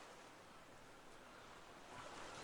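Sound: gentle ocean surf waves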